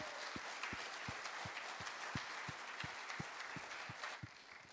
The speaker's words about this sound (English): Can we just give a round of applause for your pastors in this place? Can we just honor them for a second?